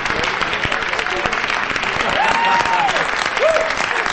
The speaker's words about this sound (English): join in the applause for the dancers.